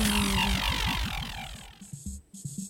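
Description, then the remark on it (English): A bee buzzes loudly, its drone wavering up and down in pitch as if circling, then fading into softer, broken bursts of buzzing. “Perhaps I'll be a buzzing bee who guards the hive.”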